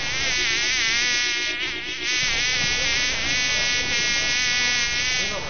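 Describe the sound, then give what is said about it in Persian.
A fly buzzes steadily and loudly at a garbage bin, a continuous droning hum with a slight wavering pitch that never lets up for the whole stretch. “نام من مگس است. من بچه گو مگس نواسه خرمگس هستم.”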